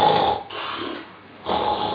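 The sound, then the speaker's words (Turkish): A voice imitates a sleeping person's snoring: two loud, rasping snore-like breaths, the first drawn in, then a brief quieter exhale between them, alone with no talking. “Horlamasını bile duymuyor.”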